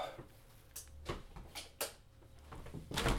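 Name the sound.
back door being opened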